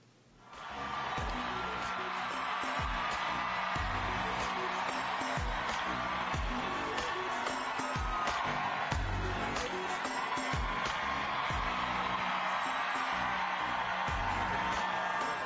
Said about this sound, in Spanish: Hay un video, señor director, se llama Aplauso. Vamos a ponerlo. Ese aplauso, ponga ese aplauso. Tiene algo así. Son aplausos porque lo que ocurría anoche en Nueva York lo vemos.